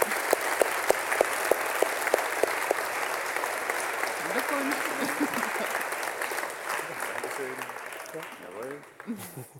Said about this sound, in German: Für den zweiten Platz nochmal einen herzlichen Applaus.